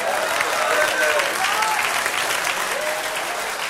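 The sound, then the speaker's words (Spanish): A crowd claps steadily in a dense, sustained burst of applause lasting a few seconds, with faint whistles or cheering voices rising above the clatter. “Dale un aplauso.”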